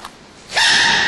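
A panda sneezes once: a faint quick inhale, then a sudden loud, hissy, breathy burst that holds for about half a second. No voices.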